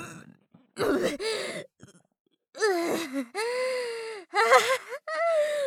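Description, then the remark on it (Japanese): A voice lets out rough, croaking burps that break into its utterances, several bursts with short pauses between, some gravelly and low, others drawn out with a strained, tonal quality. “また喋ってる最中に座面ゲップ出ちゃったであります。”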